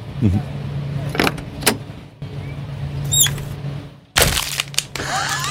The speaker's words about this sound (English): you can hear a car door shut?